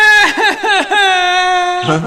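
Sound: child crying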